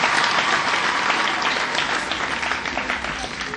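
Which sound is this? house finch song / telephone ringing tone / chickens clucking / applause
applause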